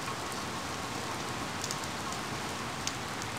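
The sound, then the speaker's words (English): Steady rain falls in a continuous hiss, with occasional sharper drops pattering on a surface. No voices, just an even, unbroken wash of rainfall throughout. “It was a wet day.”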